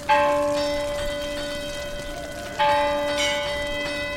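A large church bell at San Roque tolls twice, rung to warn fishermen that a whale has been spotted; each strike rings out loud with a long, shimmering metallic hum that lingers and overlaps between the strokes, with no voices present.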